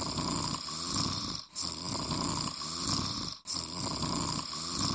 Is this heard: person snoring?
yes